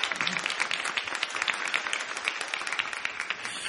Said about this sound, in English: Now, that's a good place to give them a little praise. Clap your hands.